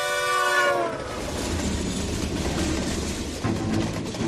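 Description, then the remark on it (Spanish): A train horn sounds a loud, steady harmonic blast for about a second, then gives way to the heavy, continuous rumble of a passing train travelling from Glasgow to London, with faint rhythmic clacking of wheels on the rails. “Esta es una historia que viaja en tren desde Glasgow a Escocia, cuyo destino era Londres.”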